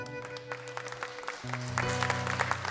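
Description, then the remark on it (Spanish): An audience applauds steadily, the clapping growing fuller toward the end, while sustained accordion-like tones hold underneath from the close of a musical piece. “Aplauso de Corrientes.”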